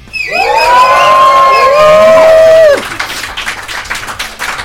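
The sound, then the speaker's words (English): An audience at a live event at Columbia University in New York City lets out a loud, sustained cheering roar for about two and a half seconds, then breaks off into scattered clapping and quieter shouts. “Let's hear you lions roar.”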